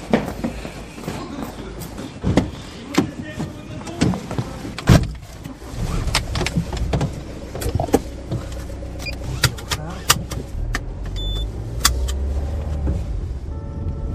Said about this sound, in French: On peut le constater, effectivement ça va très vite en cas d'intervention, le bip a sonné et on avait dit une minute, je vous le confirme, en une minute on est déjà dans la voiture et on part sur une intervention.